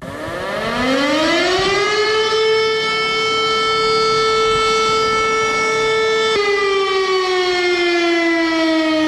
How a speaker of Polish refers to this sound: W Warszawie zawyły syreny. Minęło 81 lat od wybuchu powstania w getcie warszawskim.